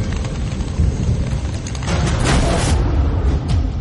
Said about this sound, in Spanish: Pero tiene que esperar a que pase la tormenta.